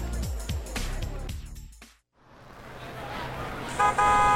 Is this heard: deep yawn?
no